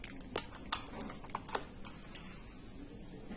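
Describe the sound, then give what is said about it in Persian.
A USB flash drive being pushed into one of a device's USB ports to copy files: a handful of small, sharp plastic clicks and light scrapes, fairly quiet, with no one talking. “من فلش رو به یکی از پورت‌های USB متصل میکنم.”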